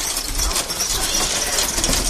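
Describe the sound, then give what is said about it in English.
The mechanism of an authentic Dutch bicycle rattles and clicks in a steady, dense mechanical clatter, bright and hissy, holding an even loudness for a couple of seconds with no voices. “Now the sound of an authentic Dutch buggy.”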